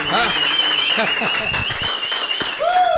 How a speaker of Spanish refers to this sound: ¡Aplauso, por favor, para esas lindas palabras!